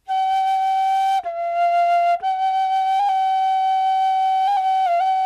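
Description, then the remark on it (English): Bird song of loud, clear flute-like tones: long sustained whistled notes at a steady pitch, broken by two brief dips and a few small wavers, with no voices. “And singing consists of two parts. First, some loud flute tones.”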